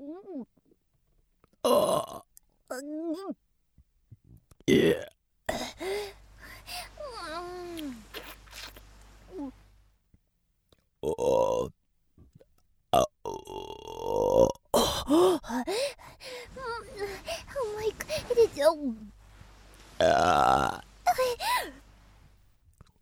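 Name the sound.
burping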